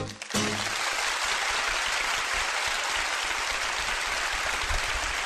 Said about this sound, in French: Voyons si ça applaudit. J'arrive. Ah oui, oh, ça marche. Ah, bah ça s'arrêtait d'un coup, dis donc.